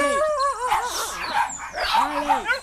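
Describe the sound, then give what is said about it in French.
Several dogs bark and yelp in quick, overlapping bursts with high whining tones, loud, filling the whole short stretch without pause; they are an elderly farmer's dogs, with him under a mango tree on his farm in the countryside of Bauta, near Havana, Cuba. “Il est assis sous un manguier avec ses chiens”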